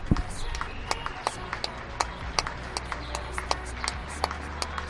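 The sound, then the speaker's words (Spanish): Scattered applause from many people on balconies in Madrid and Seville neighbourhoods, sharp irregular claps echoing over a low steady background rumble and faint murmuring voices. “Aplaude Madrid, aplaude Sevilla”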